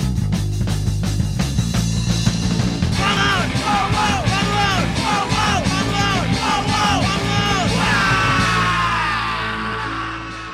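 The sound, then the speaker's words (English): A loud, full band song plays throughout, with a group of friends yelling the backing vocals over driving drums and guitars, tapering slightly at the very end. “We had our friends come and do the backups, which is essentially just yelling”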